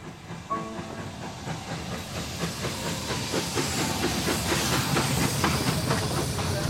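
A steam train travels steadily at night on its way to Spain, its rhythmic clickety-clack of wheels on rails blending with a constant hiss of steam. Even and continuous, with no voices.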